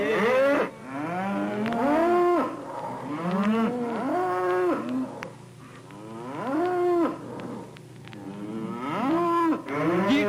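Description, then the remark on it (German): Cattle mooing in a series of about five long, loud, drawn-out calls, each bellow swelling and falling in pitch, following one another with brief pauses and no talking. “A Behemes do, a Behemes do.”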